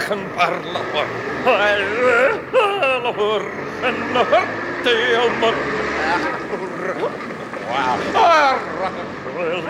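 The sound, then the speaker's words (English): Steady street traffic on a street corner of Socky Hall Street in Glasgow rumbles and hisses throughout, continuous background noise beneath a prominent wavering singing voice that carries on over the top of it. “You may hear some traffic noise.”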